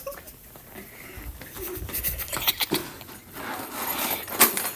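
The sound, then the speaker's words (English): Small game bells in a classroom jingle and rattle in an irregular, clattery burst, with bright metallic shimmer and a few sharper shakes toward the end; no one speaks. “The game bells.”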